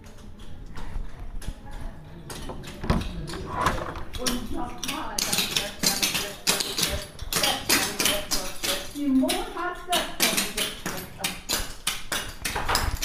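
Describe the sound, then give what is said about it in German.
Rapid, crisp tapping of clogging dancers' hard shoes striking a wooden floor in quick rhythmic bursts, fairly loud, with some voices murmuring in the background. “Und man hört auch schon so ein bisschen, dass es dort schon ordentlich zur Sache geht.”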